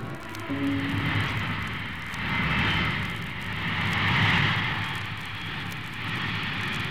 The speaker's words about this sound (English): A bomber out of control on the runway.